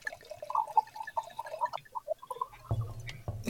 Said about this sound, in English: So it is Troon Vineyard, and it is Amphora Amber, and it is an orange wine of Vermentino. And now the second best sound ever, because the first sound is the pop of the cork, but the second best sound is... pouring the wine.